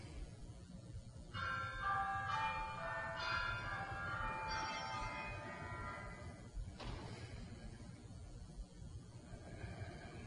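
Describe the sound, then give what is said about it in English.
A little bell rings a few times in quick succession to rouse a group of practitioners, its bright shimmering tones overlapping and slowly fading over a low, steady background rumble. “And there's a little bell to wake us up.”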